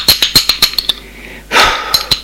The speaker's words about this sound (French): On sonne à la porte.